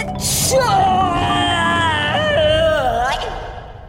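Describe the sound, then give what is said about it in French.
A voice acts out a huge, exaggerated sneeze brought on by a dust allergy in a dusty place: a sharp hissing burst, then a long, loud, wavering vocal wail that stretches on for about three seconds before trailing off. “fit alors le plus gros éternuement jamais entendu dans toute la Franche-Comté.”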